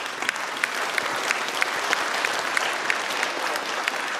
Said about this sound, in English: I didn't even tell you who we were showing appreciation to, and y'all are already clapping. Would you help me thank our Notes of Joy choir for their excellence?